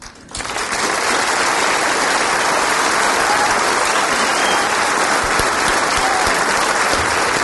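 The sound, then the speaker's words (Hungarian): A large audience at the 1,400th performance of a stage show breaks into sustained applause, a dense, steady wash of clapping that starts abruptly and stays loud and even throughout, with no voices standing out. “Tulajdonképpen nekem kéne tapsolni”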